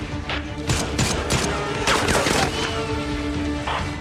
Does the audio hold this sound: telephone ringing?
no